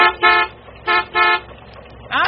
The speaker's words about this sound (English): Well, that sounds like the big truck bringing the piano.